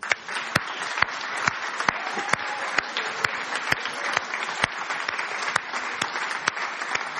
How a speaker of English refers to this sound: And we'll give them a round of applause. Would you do that?